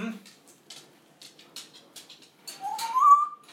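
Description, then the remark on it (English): A pet bird named Raspberry chirps in short bursts, then lets out a clear, rising whistle that slides upward and holds near the end, loud. “You funny bird.”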